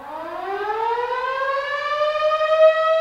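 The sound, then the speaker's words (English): The weekday morning town whistle of St. John, Kansas, which makes the same sound as the severe weather sirens, wails with a steady harmonic tone sliding slowly upward in pitch and holding loud and unbroken for about three seconds, with no voices. “John, Kansas, the early birds are awakened by the rousing sounds of the town whistle. It's the same sound as the severe weather sirens, only the whistle is never as loud or as long.”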